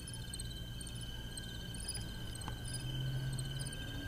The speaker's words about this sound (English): But then we've got the, okay, can you tell what this is? Crickets.